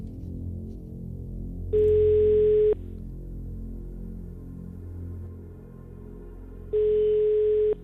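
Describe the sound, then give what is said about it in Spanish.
A telephone ringback tone purrs twice on an outgoing call, each steady electronic burst lasting about a second with a long pause between, over a low background hum. “Da tono, buena señal.”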